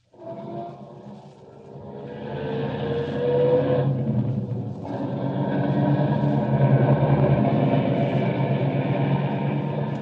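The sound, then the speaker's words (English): A car engine turns over and catches, then settles into a steady low rumble that swells as the vehicle pulls away, holding a loud continuous drone with no voices. “Start up the car.”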